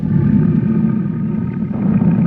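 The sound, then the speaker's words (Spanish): A huge tiger roars menacingly amid the rain, a deep, sustained rumble that fills the whole moment, loud, with a rough, growling texture and no voices. “Es el rugido de un felino.”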